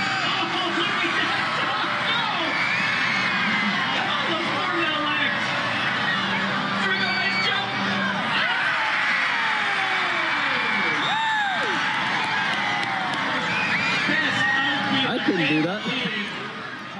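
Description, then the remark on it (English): A big crowd roars steadily at an Edmonton Riverhawks baseball game, a loud wash of overlapping voices with rising whoops, shouts and whistles breaking through, holding strong for the whole stretch; they are cheering for a duo that includes Sailor the Touchdown Dog. “That's the crowd going wild at an Edmonton Riverhawks baseball game a little earlier this year.”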